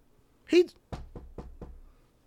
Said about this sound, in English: And I remember just looking and seeing, like, damn, bitch, I got a wall, I got some sharks, I got a couple more hurdles, and this nigga just got a knock on the door.